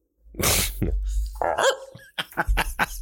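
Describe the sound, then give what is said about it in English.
A dog barks several times, a burst of sharp, loud yips and woofs coming in an irregular run, with low rumbling noise underneath and no talking. “That dog, I swear to God, man.”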